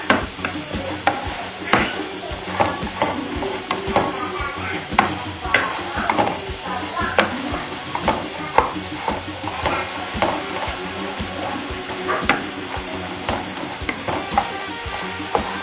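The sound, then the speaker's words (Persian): Steady sizzling of food frying in a pan, with repeated scraping and clinking as it is stirred at an uneven rhythm; no voices. “بله دستو ساده شد که بیان همش بزنم، چون که واقعا هم روی سرخ کردنی را بزنم زد هم بزنم اینجا شروع میکنم.”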